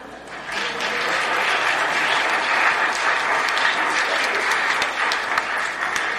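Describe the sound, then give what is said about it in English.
A crowd claps steadily for several seconds as a group shakes a chain around, mixed with the rattling, clinking jangle of the chain, all at a fairly even, loud level with no talking. “So you guys shake that chain around a little bit, smile, applause.”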